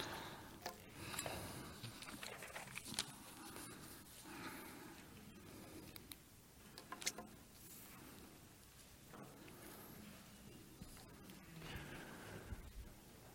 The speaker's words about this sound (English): sounds like some of y'all are getting there. I'm hearing the pages rustling, getting less and less.